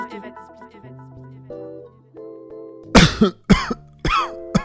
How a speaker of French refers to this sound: Oh là, tu tousses, papa. J'espère que t'as pas chopé quelque chose.